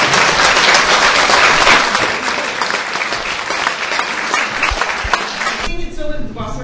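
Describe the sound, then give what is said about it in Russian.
A large audience at a concert applauds loudly and steadily for several seconds to welcome two musicians. It is a dense wash of many hands clapping that drops away abruptly before a voice begins. “Я думаю, что сейчас такой гром аплодисментов будет здесь.”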